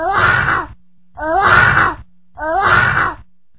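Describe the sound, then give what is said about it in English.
A person imitates a lion with three loud, rough roaring bursts, each just under a second long and separated by short pauses. Each roar is growly and voiced, with a strained, groaning quality. “What about the lion? Is that worth hearing?”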